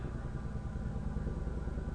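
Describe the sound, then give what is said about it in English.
A Chinook helicopter drones overhead, a steady low rumble with a faint rhythmic throb from its rotors, holding at an even, moderate level for the whole two seconds with no one talking. “I've had a lot of those big Chinook helicopters flying over lately.”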